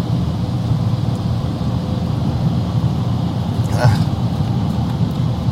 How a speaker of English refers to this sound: Truck is loud, man. 53-footer.